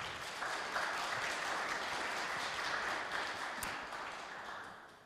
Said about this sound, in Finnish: Ja täytyy ihan sanoa, että tervetuloa rohkeat panelistit. Eiköhän me anneta pienet aplodit heille.